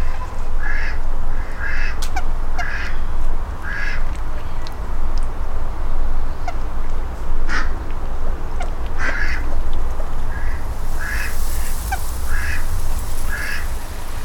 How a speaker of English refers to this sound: I haven't seen the ducks yet. Oh, there's the ducks.